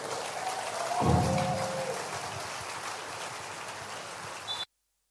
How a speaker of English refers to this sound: Go ahead and give God a praise in the house right now. Come on, sustain the clap. You can do better right now.